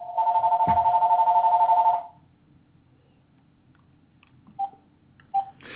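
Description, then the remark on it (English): A loud, steady electronic telephone ring sounds for about two seconds, then stops, followed by near silence and two short, quieter beeps. “Ah, somebody's ringing in to yell at me.”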